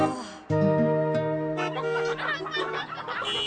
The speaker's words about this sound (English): The chickens from the truck are holding up the traffic. Nice chickens.